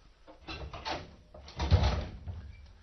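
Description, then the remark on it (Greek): A door being shut: a few soft rattling knocks, then a heavier, muffled thud as it closes, fading into quiet. “Έκλεισες καλά την πόρτα, τα μπήκες.”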